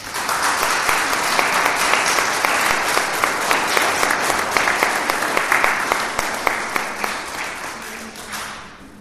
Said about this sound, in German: Und ihr kriegt jetzt einen Applaus von uns.